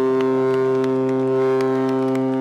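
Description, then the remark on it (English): Foghorns blare in one long, steady, deep blast that holds at full strength throughout, saluting the winning boat Arca at the end of the 53rd Barcolana regatta, with scattered faint sharp pops of firecrackers in the background. “Foghorns salute the victor, and firecrackers streak across the sky.”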